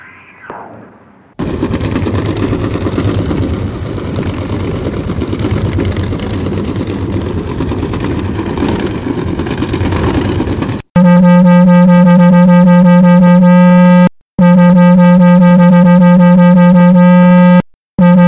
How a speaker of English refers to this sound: Those were sounds of anthropogenic noise in the ocean that were recorded and are housed in the Ocean Conservation Research Sound Library. We heard the sound of shipping noise, low-frequency sonar